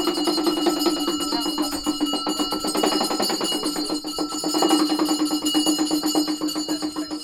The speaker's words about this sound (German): Aus einer kleinen Kammer dringt der schrille Krach von Handtrommeln und Glocken nach draußen. Ein schamanenhaft wirkender Priester zelebriert gerade lautstark ein Ritual.